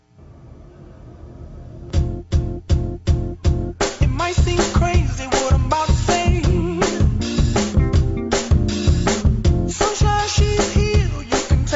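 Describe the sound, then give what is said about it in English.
An upbeat pop song plays from a recording, a hushed intro giving way to punchy, evenly spaced beats and a male singing voice over a bouncy, steady groove that stays loud throughout. “I want y'all to listen to this and see if y'all familiar with this joint right here. Play.”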